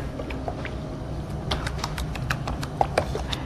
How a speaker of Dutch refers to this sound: Dat was de munt voor in de yoghurtsaus. Die moest even gehakt worden. Oh, dat hak je inderdaad vrij fijn, zie ik.